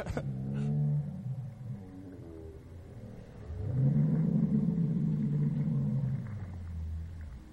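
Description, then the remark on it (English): Wind makes a deep, roaring rumble that rises and swells like a motorcycle being revved, holding loud for a few seconds before easing off; low-pitched, with no talking over it. “It sounds windy, but it wasn't that windy. It's like somebody's revving a motorcycle.”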